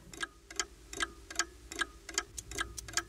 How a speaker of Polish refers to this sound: Jeden zegar w sypialni, drugi w kuchni, trzeci w salonie, czwarty w korytarzu, piąty na ręce.